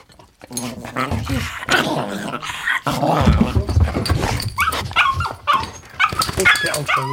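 A dog vocalizes almost nonstop for several seconds, mixing sharp barks and low growls with high, whiny whimpers in an agitated, uneven stream.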